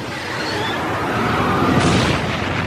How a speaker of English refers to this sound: This reconstruction shows how a US Air Force plane crashed into a B-52 bomber while trying to refuel it.